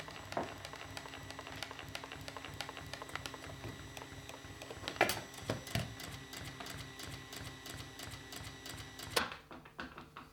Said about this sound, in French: C'était quoi cette boîte à rythme? une perceuse. On n'a pas le droit de faire ça. Une perceuse, c'est pas une boîte à rythme.